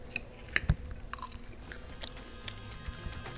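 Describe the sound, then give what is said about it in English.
Crisp, crunchy chewing of the 1905 salad, built tableside at the Columbia restaurant, with a few sharp bites followed by irregular crackling and soft munching. The sounds are moderately quiet and there is no talking. “And should we give it a taste?”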